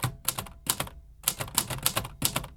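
Rapid clattering of Herr Tierlieb's mechanical typewriter, clusters of sharp keystrikes in uneven bursts with brief pauses between them, fairly loud, no voices.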